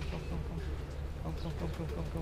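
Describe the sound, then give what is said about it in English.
Tippler pigeons coo softly and continuously, a low, throaty murmuring that rises and falls in short rolling phrases, with a steady dull background hum; the birds are kept and trained at the Red Hut beside a building site. “To that end, every day after his shift working as a nurse for the elderly, he comes down to the Red Hut to train and tend the birds that have captivated him since those early days back in Bosnia.”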